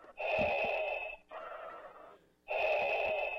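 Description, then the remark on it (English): A voice imitates heavy, raspy respirator breathing: a loud hissing inhale, a softer exhale, then another harsh inhale, slow and rhythmic, alone with no talking. “And then you'll start breathing funny.”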